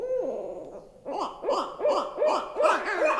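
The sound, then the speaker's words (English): Owls hoot in a rapid series of loud, wavering, monkey-like calls, about six in a steady rhythm, preceded by a brief lower tonal call; no one speaks. “It's just amazing that those are birds. They almost sound like monkeys.”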